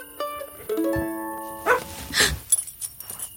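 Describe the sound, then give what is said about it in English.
A dog barks a few times, short sharp barks with brief pauses between them and a couple of quicker yips at the end, with no one talking. “Hey, pup. You scared me.”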